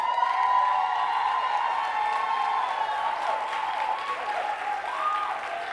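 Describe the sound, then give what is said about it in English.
A crowd applauds loudly and steadily for the men present, the ladies called on to give it up for them, with dense clapping mixed with cheers and whoops rising over it, sustained for several seconds without letting up. “Ladies, let's give it up for our men in here.”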